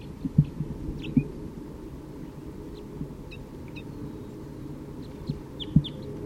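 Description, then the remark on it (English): A male bird chitters in short, scattered high chirps as it flies down toward a bird-catching net, over a constant low rumble broken by a few dull thumps. No one speaks. “Another male is chittering on his way down and he has caught an orange one, bright orange.”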